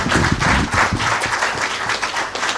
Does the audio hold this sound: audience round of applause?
yes